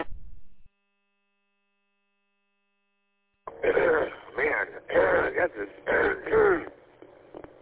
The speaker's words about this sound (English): Gotta get my throat. There we go. I think I finally got it. Been trying to clear my throat all morning.